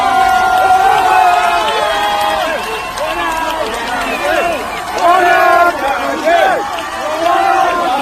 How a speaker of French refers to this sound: Et là, à nouveau, des cris, mais de joie, une ambiance de sortie de match victorieux.